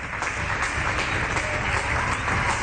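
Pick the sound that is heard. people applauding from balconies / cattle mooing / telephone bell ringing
people applauding from balconies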